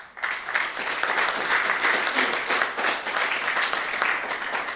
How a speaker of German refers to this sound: Also auch nochmal großen Applaus für die App Engel.